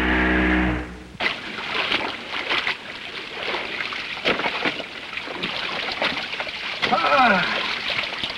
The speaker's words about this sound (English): quickly rows toward the unconscious boy, then pulls Harvey into his boat